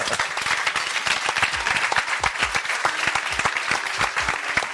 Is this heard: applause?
yes